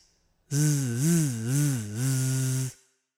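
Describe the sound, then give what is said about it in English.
A voice imitates a bee's buzz with one sustained, low, rasping "zzz" lasting about two seconds, its pitch wavering up and down in slow waves before it cuts off. “Did you ever hear a bee buzz? A bee buzz like this.”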